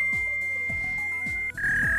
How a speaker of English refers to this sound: All right. Number one was a fax machine.